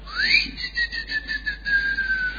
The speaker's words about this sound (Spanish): Un tipo que, para decir que hay que volver a casa, le chifla.